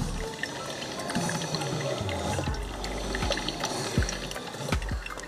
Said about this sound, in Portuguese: Cara, esse é o barulho da cafeteira, parece um monstro. Levei um susto.